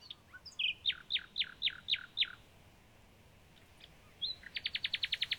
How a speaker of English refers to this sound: Behind us on the heath, the bird almost sitting on our shoulders, the nightingale was letting rip with his incomparable virtuosity, mixing sweet melody with the most challenging of modernist passages.